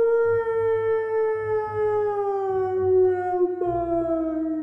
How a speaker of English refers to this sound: A distant howl echoed.